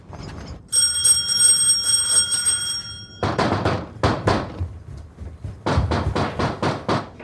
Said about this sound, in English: He rings the bell. When nobody answers, he peers into the living room through the window, then rings the bell again.